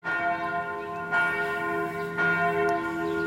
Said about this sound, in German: Die Glocken der Basilika läuten. 12 Uhr Mittag.